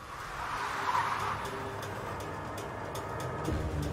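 During a traffic stop, a car pulls to the side of the road and brakes hard, its tires letting out a short, high skidding squeal over a steady, loud engine and road rumble that carries on after the squeal fades.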